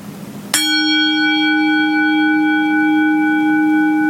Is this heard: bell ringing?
yes